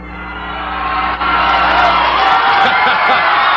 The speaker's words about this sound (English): Who says he didn't like to hear the cheer of the fans? He certainly does.